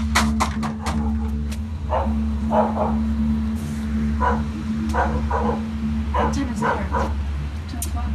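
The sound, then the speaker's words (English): A dog barks repeatedly in short clusters of loud, sharp woofs outside a trailer with a beware of dog sign, over a steady low engine-like hum. “The whole trailer's dark, except for this one light that's on in the back, and in front of us is this giant beware of dog sign.”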